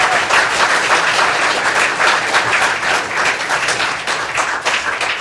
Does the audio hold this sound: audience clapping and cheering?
yes